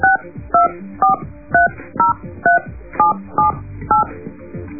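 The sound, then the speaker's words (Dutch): A quick sequence of about ten touch-tone dial beeps, each a short dual-pitched tone with brief gaps, played clearly and evenly with no talking over them; the tones sound out a telephone number. “We laten eerst eens even jouw eigen telefoonnummer in tonen horen.”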